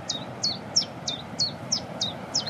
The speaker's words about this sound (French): Puis la bouscarde qui chante derrière nous, en plus. Ça, c'est sympa. Ça, c'est un des oiseaux les plus faciles à reconnaître au niveau chant. C'est deux notes. Voilà.